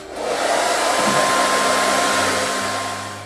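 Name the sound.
hair dryer blowing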